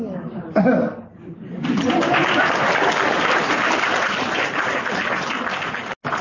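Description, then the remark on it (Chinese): An audience bursts into applause after a moment of voices and light laughter, the clapping building into a dense, steady roar that carries on for several seconds with a brief dropout near the end. “你们鼓掌就叫付出。”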